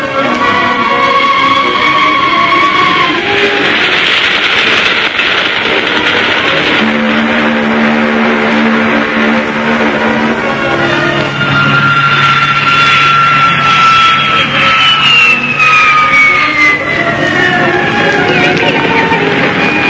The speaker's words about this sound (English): Once again, we stop the mighty roar of London's traffic.